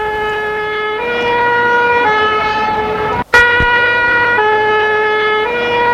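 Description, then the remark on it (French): A loud siren from an ambulance driving a patient to the emergency department, with treatment under way inside, alternates steadily between two pitches, roughly once a second, with a low road rumble beneath and a brief cut and click midway through. “Pendant qu'elle roule pour l'amener aux urgences, on commence à soigner dans l'ambulance.”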